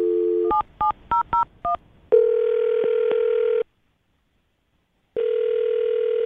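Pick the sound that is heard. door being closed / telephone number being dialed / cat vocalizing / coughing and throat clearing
telephone number being dialed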